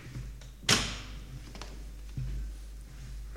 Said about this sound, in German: Für den heutigen Podcast habe ich mir überlegt, dass ich euch unbedingt die Jukebox vorführen muss, die wir hier untergestellt haben. Ich mache sie mal an.